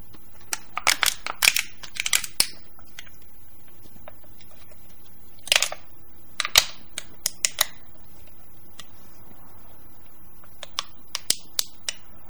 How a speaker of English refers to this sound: The Red Bull is done. A can crush for Joan Rivers.